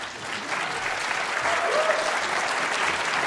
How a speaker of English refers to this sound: Nie mówcie jej, ale te brawa były dla mojej żony, nie dla mnie.